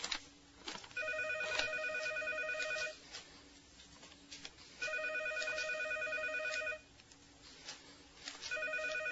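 A telephone rings in repeated electronic bursts, each lasting about two seconds with pauses between, a steady warbling trill heard at moderate volume with no one talking.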